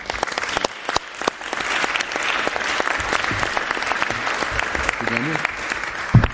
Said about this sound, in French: je lui souhaite la bienvenue, donc on peut l'applaudir.